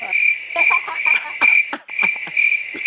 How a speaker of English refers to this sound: They get the crickets. Have to give them the crickets.